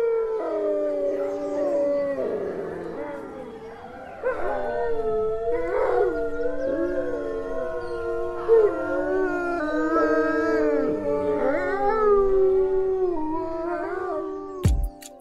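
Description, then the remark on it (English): A pack of wolves howls together in a sustained chorus, long overlapping wavering tones rising and falling against each other, steady in loudness, with a brief sharp click near the end. “they might gather as a pack and howl together to both mark their territory and also strengthen pack bonds”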